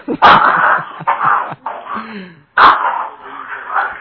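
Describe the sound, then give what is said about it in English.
Jimmy's dogs bark loudly in a room, with two sharp bursts a couple of seconds apart, and high whining whimpers fill the gap between them. “Those are Jimmy's dogs, ladies and gentlemen.”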